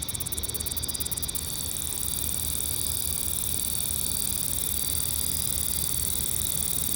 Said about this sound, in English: Speaking of things being really close to microphones, here's a recording from August of 2011 where there was a cicada sitting right on top of one of my mics.